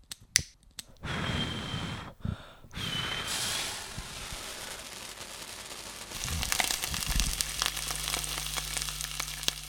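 Sausages sizzle on a barbecue grill with a steady, hissing crackle, opening with a few sharp snaps and a brief break; later the frying grows busier over a low, constant hum.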